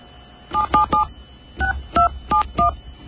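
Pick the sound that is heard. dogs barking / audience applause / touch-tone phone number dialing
touch-tone phone number dialing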